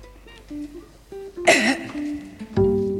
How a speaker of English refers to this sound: No, baby, clear your throat. Clear your throat